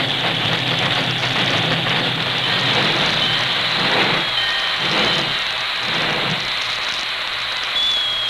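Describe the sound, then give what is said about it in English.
A steam work engine, backed almost to the siding by the Lone Ranger, hisses steadily and loudly throughout, with faint high-pitched squeals of brakes rising briefly partway through and again near the end as it comes to a standstill. “He backed the work engine almost to the siding before he brought it hissing and squealing to a standstill.”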